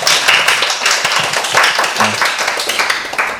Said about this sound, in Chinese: 好，那我们掌声鼓励鼓励。